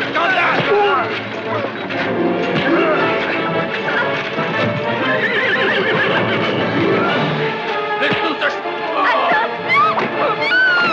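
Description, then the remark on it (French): Horses whinny and hooves clatter amid a loud, chaotic commotion, with a crowd of voices shouting and babbling throughout and occasional crashes mixed into the dense noise. “Il faut fuir au plus vite! À cheval!”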